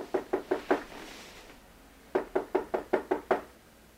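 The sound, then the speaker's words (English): Two bursts of rapid knocking on the door of a janitor's closet near the top of the Eiffel Tower: four quick raps, a pause of over a second, then a longer run of about seven raps, clear, with no voices. “It is a pleasant dream, which is quickly interrupted by a knock.”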